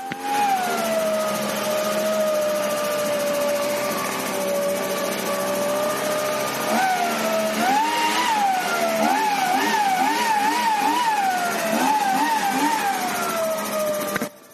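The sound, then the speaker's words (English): A gas leaf blower engine, used by a man blowing leaves off his lawn and onto the street, drones steadily at a high whine, then revs up and down repeatedly in uneven surges, loud, with no voices. “It's like he has to blow every leaf off his lawn and onto the street, and now he's chasing them on the street.”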